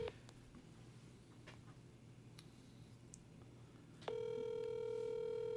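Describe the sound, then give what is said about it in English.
Faint clicks and a short beep from a phone held up to a microphone give way to a loud, steady phone line tone that starts abruptly near the end and holds unbroken, as a call to a man is placed. No one speaks. “He may or may not answer, but I talked to him.”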